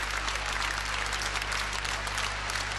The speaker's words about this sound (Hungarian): Hosszú taps. Ezt fogadta Székhelyi Józsefet vasárnap este a Dohány utcai zsinagógában.